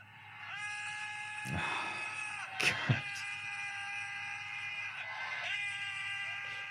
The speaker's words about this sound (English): At GDC this year, a bunch of game developers met up in one place and just screamed. Videos from the event are circulating online, and the attendees certainly didn't hold back, screaming out in the open in pure frustration.